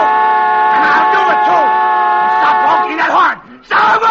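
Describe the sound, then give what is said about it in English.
A car horn blares in one steady, unbroken tone for over three seconds, cuts out briefly, then resumes just as loud, with voices talking over it. “Honking that horn.”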